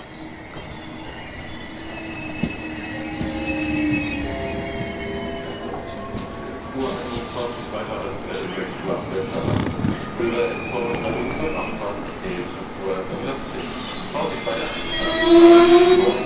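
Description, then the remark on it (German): A train arrives at platform 13 of a station, bound for Lübeck, with a steady low rumble, its wheels letting out shrill, piercing squeals at the start and again near the end as it brakes. “Letzter Aufruf! Gleis 13 nach Lübeck!”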